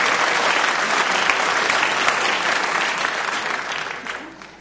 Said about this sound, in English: Give Joel Siegel a round of applause. He's a good man. Good man.